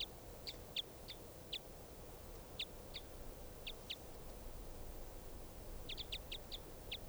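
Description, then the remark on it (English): Short, high-pitched calls from two birds chirp in scattered bursts, single notes and quick pairs, bunching into a rapid cluster near the end, all over a steady low rumble of background noise. “Both birds with 577 there.”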